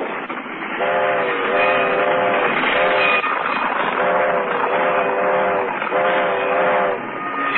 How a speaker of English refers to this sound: A train, a train.